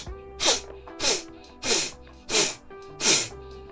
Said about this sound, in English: One more inhale. Fill up your belly with air. Ready? Just sniff.